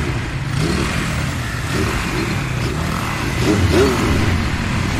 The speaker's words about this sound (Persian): هفت ماه بعد، چند تا موتور سوار تو خیابونه.